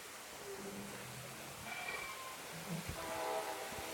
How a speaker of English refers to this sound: And you can hear the train.